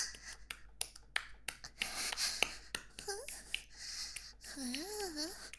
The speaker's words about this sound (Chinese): 不要只是喘气啊，给点反应嘛，舒服到说不出话了，